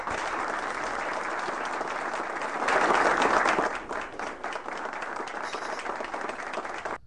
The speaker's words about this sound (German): Wir könnten auch klatschen danach.